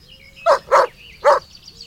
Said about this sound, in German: Es gibt dort Pferde, einen Hund,